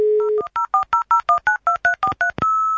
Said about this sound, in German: Man hat dann morgens im Badezimmer schon die Tür aufgelassen, weil mit den Modems, mit denen wir damals gearbeitet haben, die haben so merkwürdige Krächzgeräusche gemacht bei dem Versuch, eine Verbindung aufzubauen.